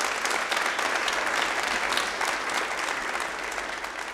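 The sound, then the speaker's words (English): A steady burst of audience applause welcoming a performer to the Red Barn stage, many hands clapping in a dense, crackling wash that holds at an even loudness for about four seconds and fades slightly at the end. “We are so pleased tonight to welcome Adam Burrows to the Red Barn stage. Give him a hand.”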